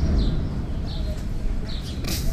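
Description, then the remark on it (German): Parrot calls at a street corner in Berlin, a few short high squawks spaced about a second apart, fairly faint against a steady rumble of street traffic. “Also für mich waren das genau die Geräusche, die ich erwartet hätte für einen Papagei.”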